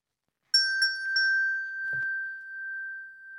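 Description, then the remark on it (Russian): A small bell is struck three times in quick succession, and its clear, bright tone keeps ringing out steadily, fairly loud, with no voices. “Позвонила лягушка в колокольчик. Тот и зазвенел.”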